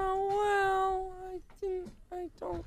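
A cat, Garage Cat, lets out one long, drawn-out meow, then three shorter meows in quick succession, fairly loud with no other sounds around them.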